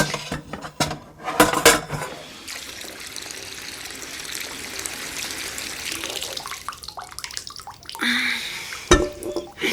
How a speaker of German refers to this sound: Dafür stellen wir die geöffneten Gläser in den Topf, füllen ihn mit Wasser und bringen dann das Wasser zum Kochen.